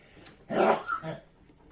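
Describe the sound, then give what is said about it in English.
A single sneeze: a sharp, breathy burst followed by a shorter, lower tail, standing alone in an otherwise quiet moment with no talking. “Bless you.”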